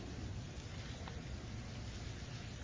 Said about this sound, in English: You know what? I'm sorry. Flip back to Exodus 4. Sorry, I like to hear the pages turn. Exodus 4.